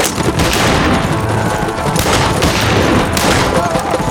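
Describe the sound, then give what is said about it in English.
A dense, continuous barrage of gunfire from a Winchester rifle and a Colt revolver fired by a rider on horseback, loud sharp shots piling over one another without pause for several seconds, with a rumbling low boom running underneath. “He guided Stormy with his knees as he fired both weapons, twirling the Winchester with his left hand while the Colt in his right bucked and roared.”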